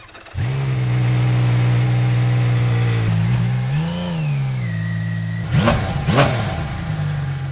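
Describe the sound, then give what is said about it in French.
A rare six-cylinder motorcycle engine idles with a smooth, steady drone, then gets blipped a few times, revving up sharply and dropping back quickly. It sounds loud, with no one talking. “Et là, c'est, on dirait carrément un moteur de course, quoi.”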